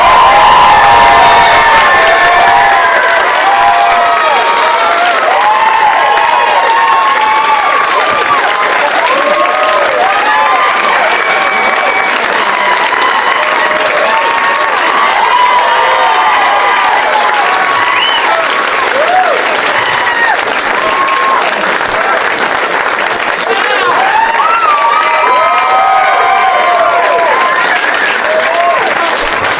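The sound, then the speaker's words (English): A theater audience claps and cheers loudly and steadily for the full length as guests Jimmy Pardo, Paul F. Tompkins and John Lithgow are welcomed for the 100th show, with dense applause, scattered whoops and overlapping shouts from the crowd. “I'm going to pretend that was for me. I am going to take a chunk of it.”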